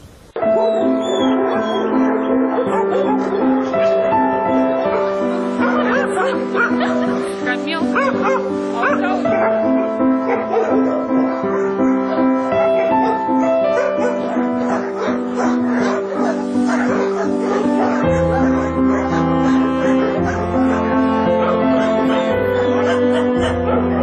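dogs barking and whimpering

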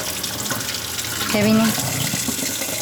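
tap water running

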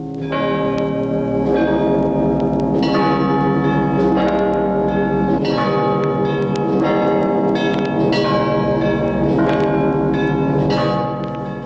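bell ringing

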